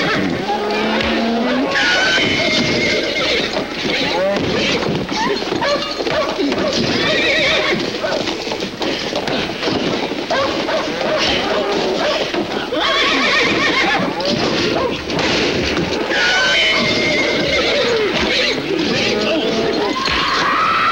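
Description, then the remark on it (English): Several horses, alarmed by two men fighting, neigh and whinny in agitation, loud, with shrill calls repeating over a dense backdrop of stamping hooves, thumps and commotion throughout. “Their violence alarms the horses and then the cows.”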